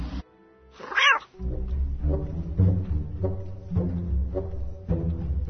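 A black cat lets out one loud meow near the start, followed by a run of low, drawn-out yowling cries that rise and fall for several seconds, with no talking.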